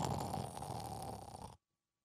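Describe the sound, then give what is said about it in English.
A voice imitates a child's snore: one loud, rough, rattling breath that lasts about a second and a half, then cuts off abruptly into silence. “But I had been in this situation before, so instead of tossing and turning and kicking and screaming and arguing about my bedtime, I gladly went to sleep, shut off the lights, and did my best impression of a child snoring.”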